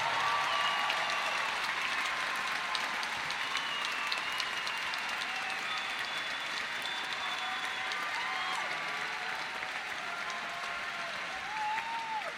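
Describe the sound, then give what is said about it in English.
Sustained audience applause for Gloria Steinem fills the whole stretch, a dense, steady wash of clapping with scattered whoops and cheers rising above it, loud and continuous without pause. “So let's give a round of applause for Ms.”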